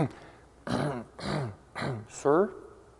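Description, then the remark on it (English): A voice performs a theatrical throat clearing: four short, gruff, voiced bursts in quick succession, fairly loud, the last one drawn out with a rising-and-falling pitch. “About this time, there's a fellow standing behind Pharaoh holding his water bottle, and all of a sudden you hear him clear his throat.”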